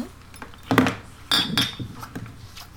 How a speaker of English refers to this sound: Sorry, it's drinking water for the first 10 seconds of that one.